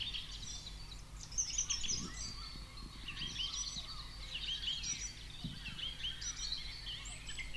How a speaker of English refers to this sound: small holding at the northern tip of Rodney Island, outside Bergen, Norway. The location features studios, farm buildings, a varied woodland landscape of birch, rowan, pine and spruce, with the stream box positioned in a forest spot close to the sea.